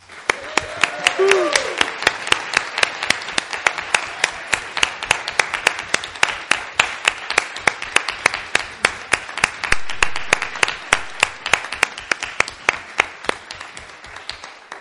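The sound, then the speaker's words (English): A large crowd breaks into sustained, energetic applause lasting the whole stretch, with dense overlapping claps and scattered voices and a brief whoop of cheering near the start. “So let us, in an act of thanksgiving, not applauding ourselves, but applauding God and all his goodness, let's give God a really big round of applause and a cheer.”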